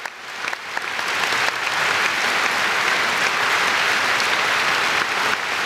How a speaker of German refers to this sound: Aber dann kommt es ganz anders. Frenetischer Applaus für Nobuyuki Tsuchii und nicht nur für ihn. Auch für die Philharmoniker und Dirigent Kent Nagano.